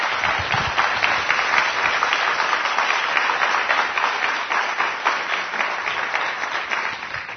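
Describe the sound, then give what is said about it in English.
Steady applause from a large audience fills an auditorium, a dense wash of many hands clapping at a constant, fairly loud level throughout without any talking. “I expect a ripple of applause to go through this auditorium.”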